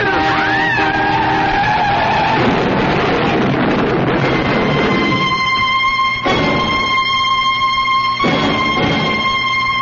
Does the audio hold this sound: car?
yes